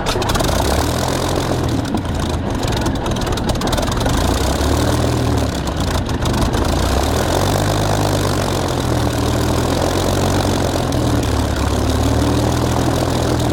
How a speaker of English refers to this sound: The engine's overheating and so am I. We either stand down or blow up.